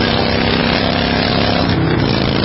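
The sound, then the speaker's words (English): A motorcycle engine roars steadily and loudly throughout while riding, a dense, constant rumble with a low droning hum. No voices are present. “And this is what that same commercial sounds like on your motorcycle.”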